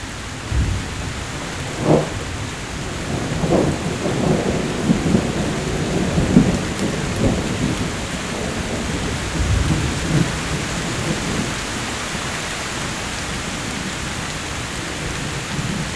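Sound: thunderstorm with rain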